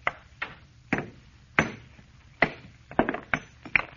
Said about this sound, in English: Nothing but a stone. All I'm going to do is try and break it along this fissure. See, I had a hammer.